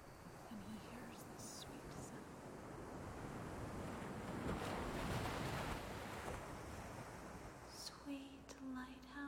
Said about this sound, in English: Well, it starts off like this. He hears the waves crashing.